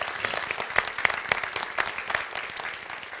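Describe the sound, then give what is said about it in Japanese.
A church audience applauds steadily to welcome a visiting missionary couple to the front, dense overlapping claps forming a continuous patter with a few sharper individual claps standing out, fading slightly toward the end. “皆さん大きい拍手してくださいませんか。”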